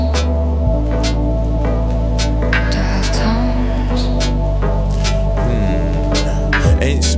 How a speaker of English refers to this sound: I believe everything's fine, but I'm just hearing dial tones.